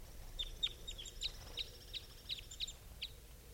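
Two caged female birds give a quick series of about nine short, high chirping calls, fairly faint and irregularly spaced over a steady low background rumble, with no voices.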